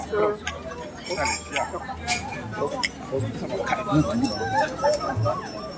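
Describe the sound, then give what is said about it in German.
Glasses of mulled wine clink together a few times in a toast at a Christmas market, sharp bright taps over the murmur of a busy crowd talking in the background. “Wir testen nämlich jetzt erstmal den Glühwein, ob der auch wirklich so gut ist, wie Michel versprochen hat. Wir sagen ja, Prost.”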